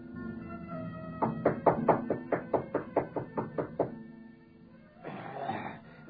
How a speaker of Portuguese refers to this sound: Em poucos minutos, Saul bate à porta do velho Araxes.